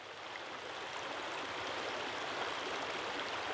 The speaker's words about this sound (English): On a sweltering Ozarks June afternoon, the 70-mile-long Mulberry River, which surges through deep rocky narrows and meanders over shallow gravel beds, is a favorite respite for humans and wildlife.